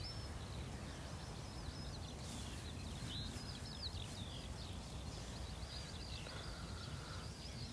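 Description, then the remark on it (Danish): Steady outdoor wind rumble in nature fills the background while faint, scattered bird chirps and twitters flit above it, with no voices present. “Og vi har jo et lydtæppe herude i naturen af fugle og vinden.”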